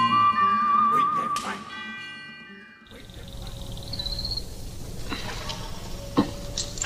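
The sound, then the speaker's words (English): A whistled melody, wavering and tuneful, rings out over sustained orchestral tones, then gives way to a rougher, noisier passage with brief high, piercing notes. “Whistling was really important because it immediately made the tunes memorable.”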